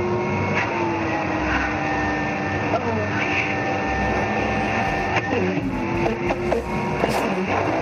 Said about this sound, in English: You can hear the suction when the vacuum hits down on her lips.